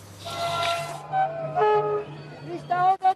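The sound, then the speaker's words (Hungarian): The historic Székely Express pilgrim train arrives in Székely Land carrying pilgrims to the Csíksomlyó pilgrimage, with a steady low rumble as its horn sounds in drawn-out tonal blasts, rising into a couple of short, loud toots at the end, with faint voices around it. “Minden évben ilyen lelkesen fogadják a zarándok vonatokkal érkezőket a Székelyföldön.”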